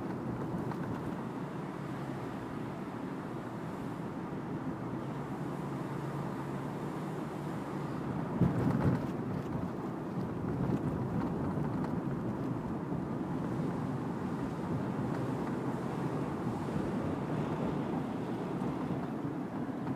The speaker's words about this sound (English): Let's open up the top, see what the weather's like out there. It looks a little windy. Yep. Windy, not especially pleasant.